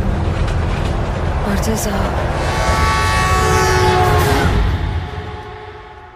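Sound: train approaching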